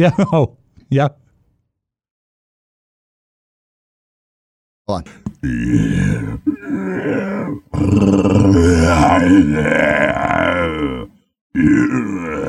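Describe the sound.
A human voice, voice actor Frank Welker's, imitates an animal roar, recreated for a movie: two short grunts, a pause of silence, then a run of loud, drawn-out, throaty growling roars, ending with one more burst.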